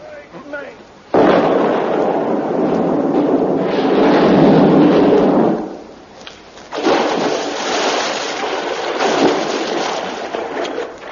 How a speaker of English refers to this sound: We've come to blow the bridge up.